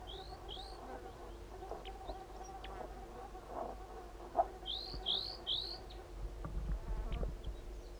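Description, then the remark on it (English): Calls of two crossbills, one a large race male: short, sharp high chips, a pair near the start and a quick run of three later, heard over a steady buzzing hum of insects with no one talking. “There are two crossbills here.”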